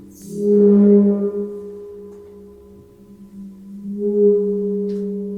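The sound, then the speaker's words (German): A rubbed gong gives off a low, steady humming drone with layered overtones, swelling loudly at first, fading down, then swelling again toward the end. No one speaks. “Ein geliebter Gong, wenn man reibt.”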